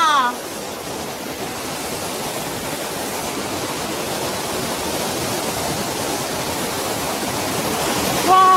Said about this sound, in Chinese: 啊，这里是个瀑布，我看。哇！